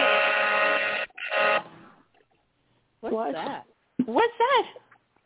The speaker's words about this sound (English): Oh, sorry. My phone was going on because there was a goal score in the hockey game.